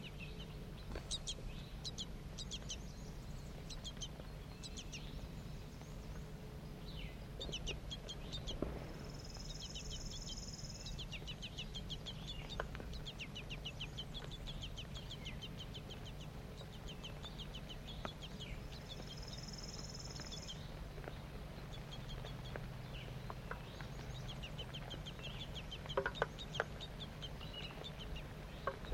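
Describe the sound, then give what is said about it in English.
Two juvenile and two adult birds call over and over at feeding, short high chirps and clucking notes tumbling together on a steady low rumble, with two brief buzzing tones cutting in. No one speaks. “Two juvenile birds and two adults.”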